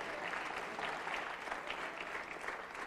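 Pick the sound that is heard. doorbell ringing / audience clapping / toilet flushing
audience clapping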